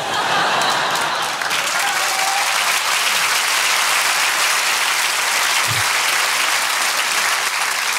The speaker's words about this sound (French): Il y en a qui applaudissent pas, elles sont là, c'est où les injections ?